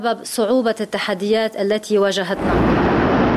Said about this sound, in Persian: آغاز وضعیت کنونی انفجار بزرگ انبار حاوی 2750 تن نیترات آمونیوم در بندر بیروت بود. انفجاری که نیمی از پایتخت را ویران کرد و بیش از 300 هزار نفر را بی خانمان.